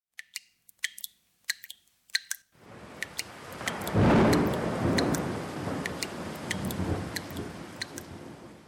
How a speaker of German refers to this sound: Nur ein kleines Licht schien durch die Dachschindeln von oben herab. Dort, wo auch der Regen zwischen den Dachschindeln hindurch tropfte.